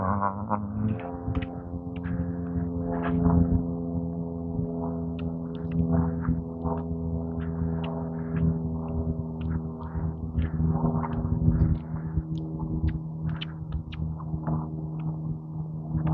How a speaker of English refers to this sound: Small plane flying overhead.